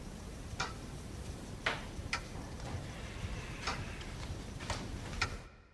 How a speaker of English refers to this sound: There was something special about this clock. I recorded a clock and then manipulated it to be just ever slightly slower than 1 second a tick, and it kind of makes you lean into the ticks, into the sound of the clock.